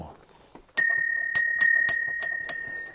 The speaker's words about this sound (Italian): Poi suona la campana, il pranzo è pronto!